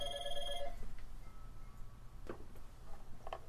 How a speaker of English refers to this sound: We had a little problem there. Yeah. Didn't mute the phone.